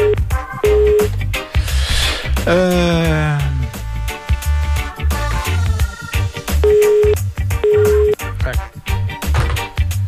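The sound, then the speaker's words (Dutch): A few short electronic keypad beeps from a phone being dialed to call someone again, in two pairs near the start and end, heard over a loud, busy music bed with a steady beat. “Gaan we een andere telefoon proberen.”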